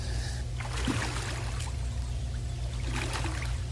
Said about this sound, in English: So you start treading water, and here's what happens. All right. Let's start treading water.